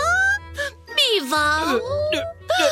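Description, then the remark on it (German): A voice mimics a cat crying miserably: several drawn-out, high, wavering meows with sliding pitch, loud, separated by brief pauses. “Aber wenn ich keine Katzenmilch habe, muss ich bitterlich weinen.”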